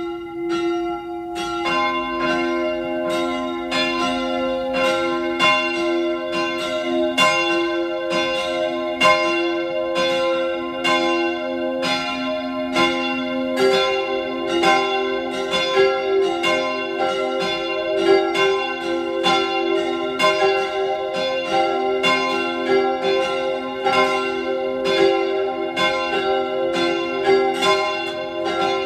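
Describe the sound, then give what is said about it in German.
Several church bells of the parish church of St. Therese of the Child Jesus on the Hungerburg near Innsbruck ring together at noon in a steady, continuous peal, their overlapping strikes forming a dense, resonant wash of tones that stays loud and even throughout, with no voices. “Sie hören die Glocken der Pfarrkirche zur heiligen Theresia vom Kinde Jesu auf der Hungerburg bei Innsbruck.”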